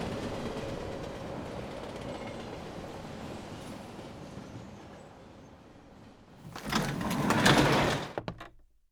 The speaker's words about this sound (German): Der Zug verlangsamt seine Fahrt.